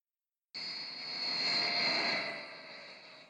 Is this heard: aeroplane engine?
yes